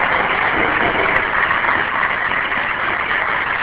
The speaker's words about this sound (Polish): Fajnie, że klaszczą wszyscy.